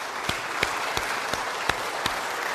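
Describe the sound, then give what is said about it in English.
An audience applauds steadily, a dense wash of many hands clapping, with a few sharper, louder claps standing out at a regular rhythm, in appreciation of the young ones who led them that morning. No one speaks over it. “And, a wee round of applause, just to show our appreciation now.”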